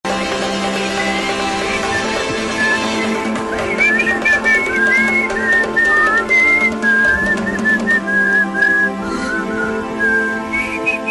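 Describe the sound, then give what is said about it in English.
A clear whistled melody of gliding high notes from a pop song enters after a few seconds and carries on steadily over a full instrumental backing track, with no talking. “you got a whistling solo here.”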